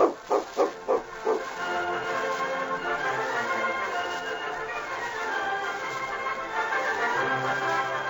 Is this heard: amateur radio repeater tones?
no